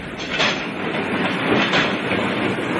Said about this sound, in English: It's just a few minutes before midnight, and in very soon, the signalman here will signal in the last Great Western Railway train to pass through Reading.